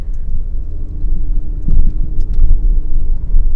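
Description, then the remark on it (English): A car rolls slowly up a street, with its window partly rolled up, while the driver looks for turkeys. Its low engine rumble is steady and fairly loud, with a brief bump and a few light rattles partway through. “Driving slowly up the turkey street.”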